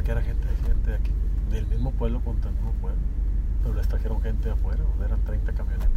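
Steady low engine rumble from inside a truck cab, with a man talking throughout over the hum; no distinct window sound stands out.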